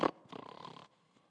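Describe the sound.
A person mimics a snore with one quick sharp snort followed by a longer, raspy rattling breath lasting about half a second, then quiet. Moderately loud, with no other talking.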